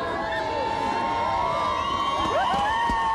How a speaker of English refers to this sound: Hear the crowd. There's a lot of people here welcoming second place finisher in the 2013 Iditarod